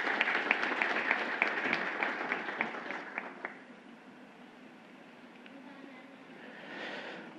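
An audience applauds with steady clapping and a few sharp individual claps standing out, strongest at first and then fading to a quiet murmur by the end.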